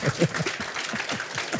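An audience applauds with a dense, steady wash of clapping that holds at an even level throughout, with a few low voices or murmurs mixed underneath.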